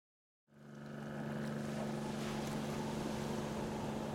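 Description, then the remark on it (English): A strong northwesterly wind and waves with white caps on a rough sea in the Tasman Sea, southwest of Lord Howe Island, rise in a steady, loud roar after a brief silence, with a low, constant droning hum beneath the rushing noise and no voices. “It's Wednesday, the 7th of October, 1936, and in the vast Tasman Sea, southwest of Lord Howe Island, a strong northwesterly wind whips up waves and white caps.”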